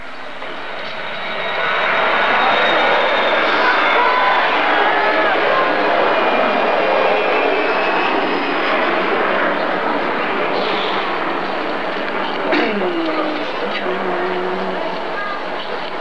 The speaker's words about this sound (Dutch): Ik klaag Schiphol aan omdat wij constant in de herrie zitten. Door vliegtuigen die vrijwel recht over ons heen vliegen.